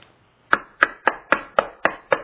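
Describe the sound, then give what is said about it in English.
Seven sharp, evenly spaced knocks on a door, steady and firm, each a crisp wooden thud with a quick decay, following a brief silence. “He knocks, right?”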